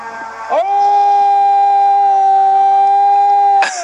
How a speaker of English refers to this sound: Damn, I got a whistle in the background. What in the world's going on? Got a whistle going on out here. We being attacked?